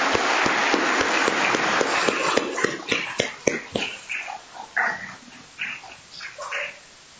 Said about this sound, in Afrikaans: Kom ons gee vir hulle 'n lekker hande klap.